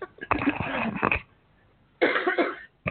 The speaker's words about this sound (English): Oh, okay, sorry. Had to cough.